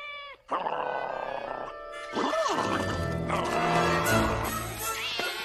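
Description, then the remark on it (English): Cats yowl and screech in a loud, frantic jumble as Scooby-Doo chases them and Shaggy follows, with rising and falling cries over a busy, dense backdrop and no talking. “Chases the cats and Shaggy follows.”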